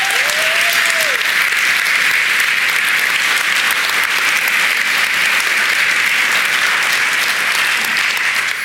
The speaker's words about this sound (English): So would you give yourselves and those who serve and our staff team just another incredible round of applause.